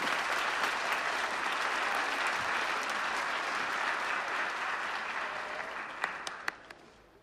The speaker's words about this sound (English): Ronald walks onto the stage wearing a brown leather jacket and jeans. The crowd applaud.